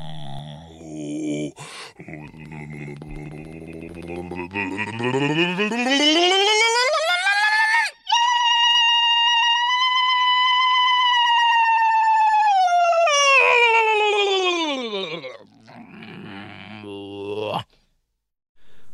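Experimental solo singing by singer a singer: an unaccompanied voice slides upward into a long, loud, overtone-rich sustained note, then glides back down into rough, growling tones before stopping abruptly.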